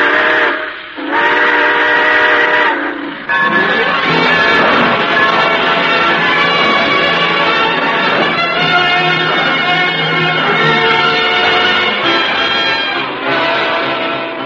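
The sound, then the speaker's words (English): A loud, sustained steam train whistle blows in long harmonic chords, with brief breaks near the start, over the low rumble of a train pulling away. “Well, dear friends, it looks as though we're ready to pull out.”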